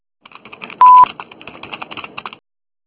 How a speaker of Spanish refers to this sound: Después del tono, ¿aló? Grabe su mensaje.